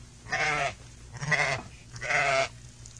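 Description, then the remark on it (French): A human voice imitates a toad with three drawn-out, wavering bleats at a steady pace, fairly loud, sounding much more like a sheep than a toad. “Moi je vais vous faire le crapaud.”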